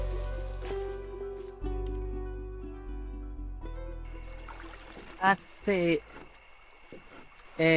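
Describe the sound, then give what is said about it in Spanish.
A small dugout canoe (cayuco) moves along a river with a steady low engine drone and some water sounds. Near the end, a voice speaks briefly. “De ahí caminaron hasta llegar a un río donde se subieron a un cayuco.”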